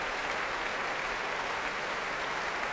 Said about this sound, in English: Here he comes back once again. Huge warmth of applause from this very full hall. And once again, he's passing on thanks to all the players.